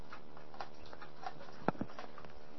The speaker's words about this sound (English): Oh, wait. Let me enhance this a hair. This is how hard it's raining.